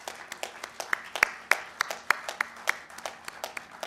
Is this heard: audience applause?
yes